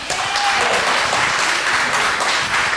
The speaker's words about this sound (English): How many of you in this audience tonight believe that there should be an official impeach, that President Trump should be impeached by the Democratic House? Signal by applauding.